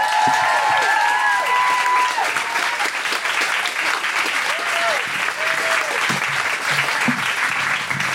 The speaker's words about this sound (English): Oh, thanks. Thanks for clapping, because that's a long walk.